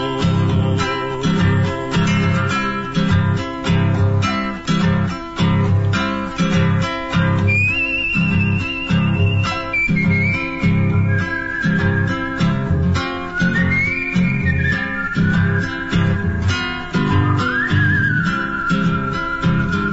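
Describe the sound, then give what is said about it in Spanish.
A person whistles a bright, wavering melody over steady rhythmic backing music. The whistling comes in partway through, holding long sustained notes and stepping between pitches, clear. “Vuelve al tranco sin apuro, a sus pagos en el tropero, y silba mientras recuerda que allá lo espera otro arreo.”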